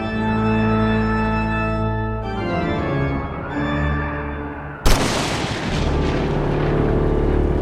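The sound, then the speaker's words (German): Sustained organ chords swell and shift for several seconds, then a sudden, sharp lightning crack as lightning strikes the chapel of St. Abigail, followed by a loud, continuous rumble of thunder that carries on to the end. “Der Blitz schlug ein. Mitten in St. Abigail.”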